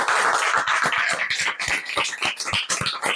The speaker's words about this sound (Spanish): Daos un fuerte aplauso y otro para Mónica. Gracias.